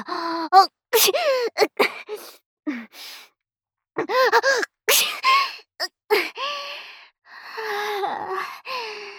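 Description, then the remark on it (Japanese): A woman sneezes several times in a row into someone's face, each sharp burst preceded by breathy, gasping inhales, with short pauses between the fits. “顔面にくしゃみはさすがにえぐいわよ。”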